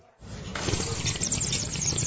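A loud, wet slurp of ramen noodles, a steady airy, gurgling rush that starts abruptly and keeps going for about two seconds with no talking.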